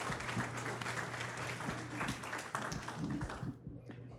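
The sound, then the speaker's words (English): An audience applauds the helpers of a morning lesson in a dense, steady wash of many hands clapping, loud and sustained for about three and a half seconds before dropping off sharply, with a low steady hum underneath. “Can you give them a round of applause for putting up with me?”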